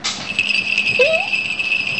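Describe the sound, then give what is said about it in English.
A jingle bell rings with a steady, high, shimmering tone that holds for about two seconds, starting with a slight rattle. A brief rising squeak briefly shows through midway. “Oh, I can hear the ring. The ring sound. Is a bell? Is this a bell? Oh, jingle bell.”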